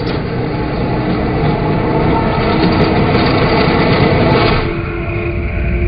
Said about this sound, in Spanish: En los parques de diversiones, la gravedad es el combustible galáctico que hace las montañas rusas rugir y a la gente gritar.